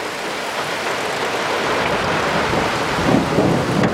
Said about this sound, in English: Yeah, it's outside. So I finally, the rain finally hit. I've been extremely lucky with the rain. Oh man, that's so much lightning.